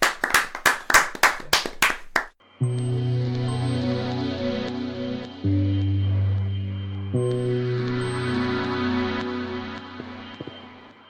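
A quick run of about eight sharp, evenly spaced claps lasting two seconds, then steady music with sustained tones takes over.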